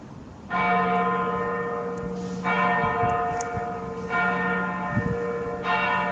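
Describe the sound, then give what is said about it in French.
Church bells in Kraków, Poland ring out in a steady sequence of strong strikes about every one and a half to two seconds, each tone humming on richly and overlapping the next, with no voices. “Les cloches, un pigeon. On est bien à Cracovie.”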